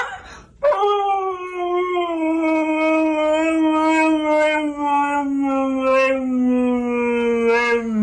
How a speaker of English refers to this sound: This is Maverick, the singing husky. Okay. It's a dog, a husky dog, that sings.